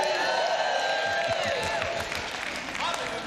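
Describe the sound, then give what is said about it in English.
An audience at a Wednesday church service erupts in loud shouting and cheering, voices overlapping in a dense, sustained roar with scattered clapping and whoops throughout, energetic. “It's shouting time on Wednesday.”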